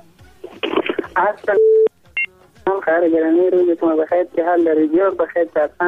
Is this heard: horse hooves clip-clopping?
no